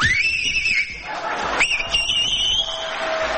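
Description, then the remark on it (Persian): A loud, piercing finger whistle, made by an audience member with two or three fingers in his mouth, rings out twice over a noisy crowd, the first blast sliding upward and wavering, the second rising sharply and then holding a long, shrill note. “ببین این آقا از بخواب 3 تا انگشتش یا 2 تاشو گذاشته تو دهنش داره سوت میزنه.”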